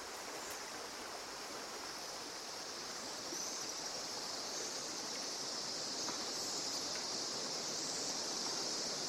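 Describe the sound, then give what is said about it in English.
A river rushes steadily and loudly inside a cave throughout, a dense, unbroken roar of water with a bright hiss on top, growing slightly louder partway through. No voices are heard. “A clue to the source of the guano can be heard above the noise of the river.”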